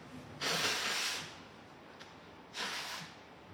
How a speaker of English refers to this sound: Sorry, I just need to blow my nose. I've been getting a bit emotional.